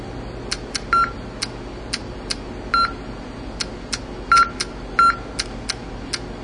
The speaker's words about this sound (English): You set up a password. And the clicks here are just progress indicators, and the beeps are the counts.